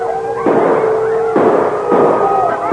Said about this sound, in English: When he heard the shots that scattered the frenzied wolf pack surrounding him, he could hardly believe his ears.